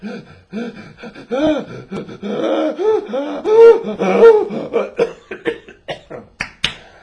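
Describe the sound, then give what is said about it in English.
A voice imitates rapid hyperventilating, with quick gasping breaths and voiced, strained inhales that speed up into short sharp puffs, fairly loud with no words. “They're breathing in, hyperventilating, destroying themselves so they don't get enough oxygen.”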